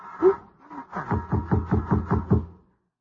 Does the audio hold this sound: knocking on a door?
yes